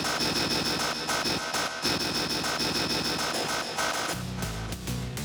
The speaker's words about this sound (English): I'm talking about miter saws, 5/16 chalk lines, hammer drills, sawzaws, boom lifts. I'm talking about conduit, propane tanks, nail guns. Construction.